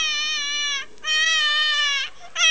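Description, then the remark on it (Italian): A baby girl wails at night in loud, sustained bursts: two long cries with a brief breath between them, then a third cry starting. No one else is speaking. “e nella notte si sentiva ancora vicinissimo il pianto di un bambino.”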